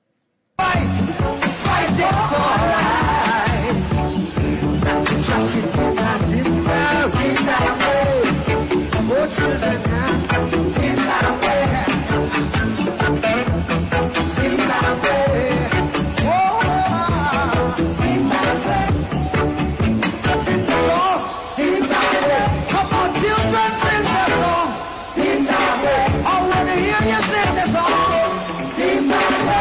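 A live reggae concert recording from a night in 1980, with the band playing loud and steady throughout and the crowd celebrating into the night, bass and rhythm dense and continuous, and no spoken voices over the music.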